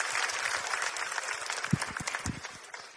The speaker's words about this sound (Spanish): Un fuerte aplauso para mi amiga, por favor.